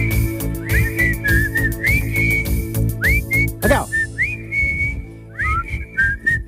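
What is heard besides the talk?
people whistling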